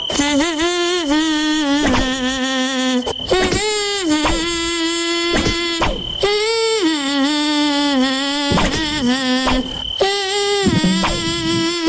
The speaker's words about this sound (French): Deuxième chanteuse, deuxième moustique, allons-y.